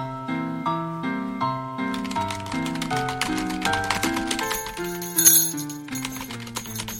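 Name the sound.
typewriter typing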